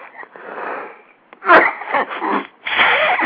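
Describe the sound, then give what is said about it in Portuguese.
A congested run of harsh breathy bursts from a person with flu: a snuffly inhale, then a sharp sneeze-like explosion followed by several ragged coughs and a final drawn-out, wheezy blast. “Então eu tenho o direito de passar esse programa aqui, metade dele tossindo, a outra metade espirrando.”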